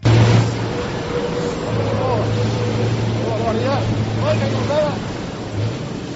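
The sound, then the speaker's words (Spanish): A 1200-horsepower MAN racing truck driven by Antonio Albacete, skidding on dirt during a lap of the Jarama circuit. Its engine drones loudly and steadily over a rough, gritty rumble of dirt, with a few brief rising and falling revs and faint indistinct voices underneath. “Vamos a escuchar el miedo que me hizo pasar pisando la tierra y derrapando Antonio Albacete en esta vuelta al circuito del Jarama.”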